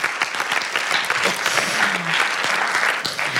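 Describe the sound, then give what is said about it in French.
An audience claps steadily for a few seconds, a dense, even patter of many hands at a fairly loud, constant level, with no voices standing out above it, applauding the feminist poster-collage groups of France. “je voudrais quand même dire bravo et merci à tous les groupes de collages féministes de France, parce que les meufs, vous avez transformé l'espace public depuis quelques années et je pense qu'on peut vous applaudir, vraiment.”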